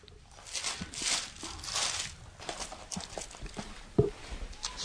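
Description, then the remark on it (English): Many Bible pages rustle and flip at once as an audience turns to Revelation chapter 6, a steady overlapping papery swishing with soft bumps and shuffles, moderately quiet and without any talking. “Pages are still flipping.”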